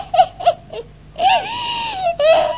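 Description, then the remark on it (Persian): High-pitched crying by Mr. Mouse (Aqa Mushe), a story character: three short sobbing gasps, then a drawn-out wavering wail that breaks briefly and rises again, fairly loud with no talking. “ای داده بیداد آقا موشه، حالا چرا داری گریه میکنی؟”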